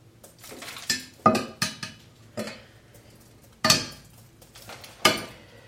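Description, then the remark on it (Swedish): A metal strainer is knocked against a pot several times in uneven bursts, its bottom tapped to free quinoa stuck to it, sharp clanking taps with a faint metallic ring, no voices. “Knackar i botten på silen också så att jag får bort det som sitter fast.”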